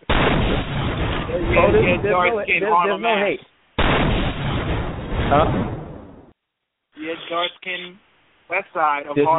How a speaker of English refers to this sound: Wow, your hate for Team Light-Skin is never ending, so I got to give a gunshot for you.